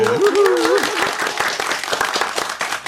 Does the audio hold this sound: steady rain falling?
no